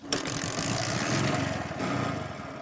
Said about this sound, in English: This motorcycle is called Bajaj Boxer. It consumes low fuel.